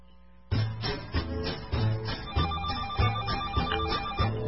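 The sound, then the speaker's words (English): A short, upbeat homemade jingle, made up by the hosts and played to open the phone lines, starts abruptly with telephone-style ringing tones repeating over a steady thumping beat. It plays loud with no voices. “Play the little ditty. Some dumb thing we made up.”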